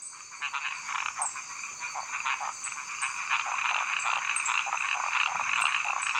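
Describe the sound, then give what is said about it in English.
A lone male frog starts the call and is quickly copied by a dense chorus of other croaking frogs. The overlapping, pulsing calls build and grow louder and busier, with no talking. “This is an actual frog the researchers recorded, by the way.”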